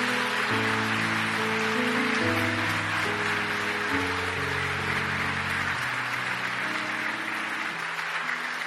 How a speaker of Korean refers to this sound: 복음방송을 위해 열심히 헌신하고 있는 귀한 분들을 위해서 여러분 아낌없이 따뜻한 박수로 격려해 주시기 바랍니다.